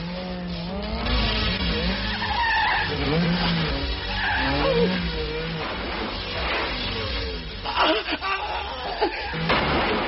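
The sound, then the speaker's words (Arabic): Loud, sustained tire skidding and squealing from a car driven hard and recklessly by an inexperienced driver, with engine roar and pitch sweeps, a few sharp impacts near the end, and faint laughter in the mix. “هذه نتيجة العبث بالسيارة لمن لا خبرة له.”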